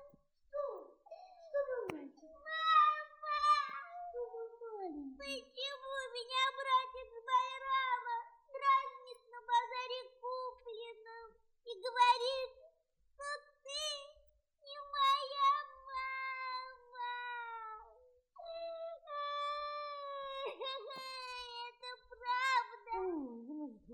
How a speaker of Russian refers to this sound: Не плачь, сыночек, и не слушай его.